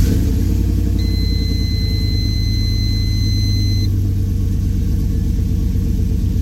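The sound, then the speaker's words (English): A truck engine with a Brian Tooley stage two cam, redone top end and stock bottom end, idling loudly with a lumpy, choppy cam rhythm, steady throughout, with a faint high-pitched whine running for a few seconds in the middle. “stage two cam in it by Brian Tooley. Sounds really good. Still runs really good.”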